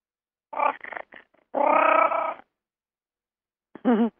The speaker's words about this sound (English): Was that the cat? Yeah, it sounded like a cat.